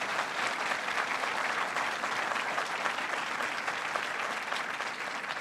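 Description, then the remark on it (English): Steady, dense applause from a sizable audience fills the whole stretch, a continuous wash of clapping at even volume with no voices rising above it. “That's worth applause.”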